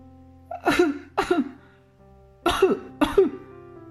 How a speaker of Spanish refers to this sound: Acurrucado contra su tagada, el pequeño rey se sienta muy desgraciado. Tiene frío y tose. ¡Oh, cómo tose!